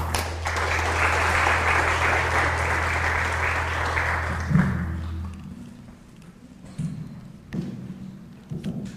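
A crowd claps loudly in a dense, steady burst with a low hum underneath, then the applause fades out after about five seconds, leaving scattered thumps and quiet shuffling.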